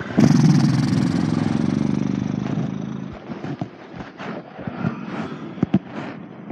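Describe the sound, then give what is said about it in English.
A loud, buzzy horse-lips exhale after a big inhale during a yoga flow, a fluttering lip trill lasting about three seconds, followed by faint scattered rustles and soft taps. “Take a big inhale and then horse lips it out.”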